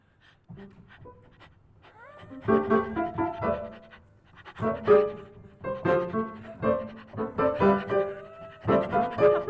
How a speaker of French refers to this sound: Ça, c'était le chien.